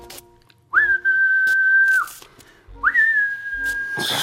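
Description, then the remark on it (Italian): Two long, loud human whistles given as a warning that a watchman is coming, each sliding up sharply and then holding a steady piercing note for over a second, separated by a short pause, with faint background noise. “Fischia! Fischia!”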